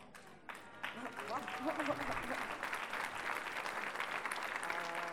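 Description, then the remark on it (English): An audience breaks into applause, a dense, steady patter of many hands clapping that swells quickly and holds for several seconds, with a few voices faintly mixed in. “Nobody clapped when I rehearsed this.”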